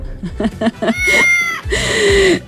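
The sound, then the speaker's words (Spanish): A cat meows loudly: a quick run of short, clipped chirps, then two longer drawn-out cries, each held for about half a second. “Ah, dice, mi gata se llevó a saltar con el gato de la radio.”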